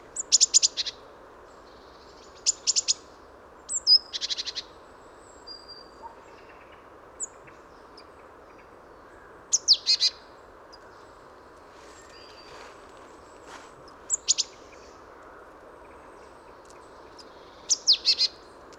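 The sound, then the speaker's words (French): Great tit contact calls: short, high bursts of chirps repeated in clusters every few seconds, varying in pattern, over a steady low background hiss with no talking. “Différents cris de contact d'une maison charbonnière.”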